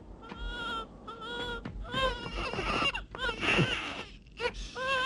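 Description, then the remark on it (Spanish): A baby cries in repeated high, wavering wails, loud, with short breaths between bursts and some background noise underneath. “Cualquiera puede oír su llanto. Por caridad, haz que no llore.”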